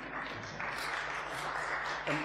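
A crowd applauds steadily for a couple of seconds for a woman who has been asked to stand up, a dense wash of many hands clapping at an even loudness, with a faint low voice murmuring underneath.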